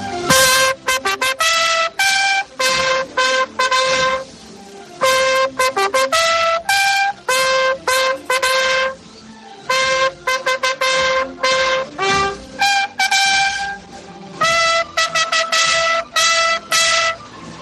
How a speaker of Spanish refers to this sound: Pues con ella te dejo, ¿eh? Mira qué bonito, ahora de nuevo las cornetas.